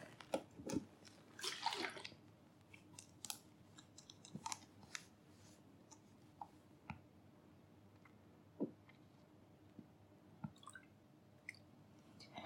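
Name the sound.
water running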